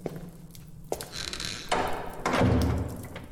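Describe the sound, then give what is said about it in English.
A series of creaks, scrapes and soft thumps, ending in a heavier low thud and rumble as a door swings shut. “Oh, perhaps be a dear and close the door behind you.”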